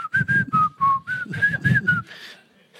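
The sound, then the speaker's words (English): Someone whistles a light, bouncy tune, a string of short clear notes sliding up and down in pitch with breathy edges, ending on a softer airy note. “When I'm reading this, I get this picture of Jesus just whistling away.”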